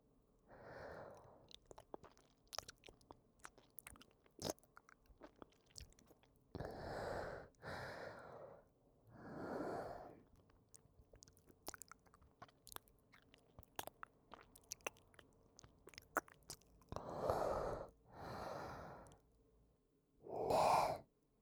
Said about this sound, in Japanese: それともこの口の中のくちゃくちゃした水音が気持ちいいの？